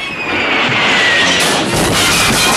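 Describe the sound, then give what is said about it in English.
Window glass shatters loudly, a bright, harsh crash that rings on as a sustained hiss of falling shards for a couple of seconds, with no voices. “A window shatters behind the quartet.”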